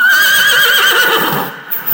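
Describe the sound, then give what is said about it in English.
A horse whinnies loudly, a long, shrill, wavering call that slowly trails off, followed by a brief softer snort near the end. “A rider gets to feel the horse, the rhythm of riding.”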